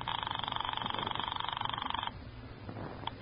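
A telephone rings upstairs with a steady, rapidly trilling tone for about two seconds, then cuts off, leaving a quiet low rumble. The ring is fairly loud, with no talking.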